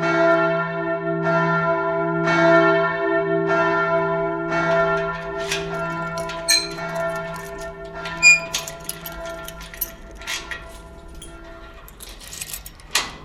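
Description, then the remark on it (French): A large church bell swings and rings, striking about once a second with rich humming overtones, then the peals fade into a lingering hum with scattered metallic clanks and ticks. “La cloche est revenue à toute volée dessus et l'a coupée net comme un rasoir.”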